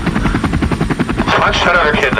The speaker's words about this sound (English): The police chopper. It's honestly what it was like.